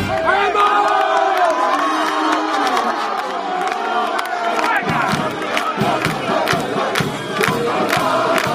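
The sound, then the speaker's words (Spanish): A crowd of young men, the mozos de las vacas, shouting and chanting together during the festival dance of the gato montés (wildcat dance), a loud continuous roar of voices, joined after a few seconds by sharp rhythmic bangs or claps. “Pues esto que suena es el baile del gato montés de los mozos de las vacas.”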